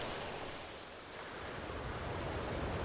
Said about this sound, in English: When will those waves stop?